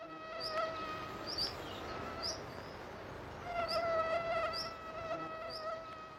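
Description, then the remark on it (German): A high-pitched mosquito whine drones steadily throughout, its pitch wavering slightly as the insect moves, with brief sharper chirps layered over the continuous buzz. “Die meisten Menschen sind keine Freunde von Mücken.”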